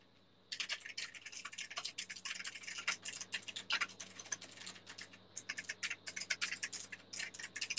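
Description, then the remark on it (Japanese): Rapid, continuous typing on a computer keyboard, dense bursts of crisp key clicks with brief pauses, fairly loud, with no voices present. “キーボードはね、あれなんやな。”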